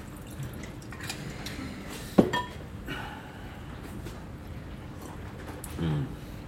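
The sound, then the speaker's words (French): Bourbon from a bottle of old Jack being poured into a glass: a single sharp clink of glass, then a soft, uneven trickle and a few drips of liquid over a low background rumble. “Je te sers un verre ? Bourbon ?”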